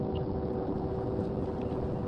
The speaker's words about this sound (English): So you can hear the train whistle of the Amtrak. Foghorn from Alcatraz.